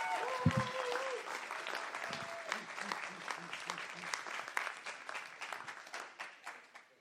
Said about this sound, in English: So can we give our kids a massive round of applause?